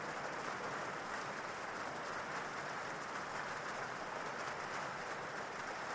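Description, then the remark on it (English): Steady rain pours down in a continuous, hissing wash of fine patter, soft and even throughout with no voices and no breaks. “Because it's easy for people to relax completely when listening to the sound of the cleansing rain.”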